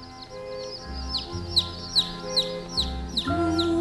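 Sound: hen clucking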